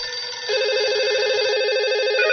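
An electronic telephone ring warbles steadily and loudly for a couple of seconds, a bright trilling tone that stands alone, with no voices over it.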